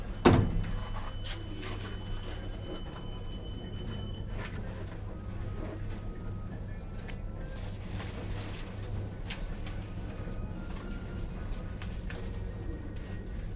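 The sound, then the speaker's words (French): Elevator doors slide open at the eighth floor with a soft thump at the start, followed by a steady low mechanical hum and faint rattles, with no voices. “Huitième étage. Ouverture des portes.”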